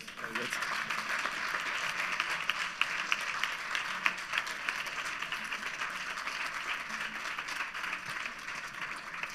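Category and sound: crowd, audience applause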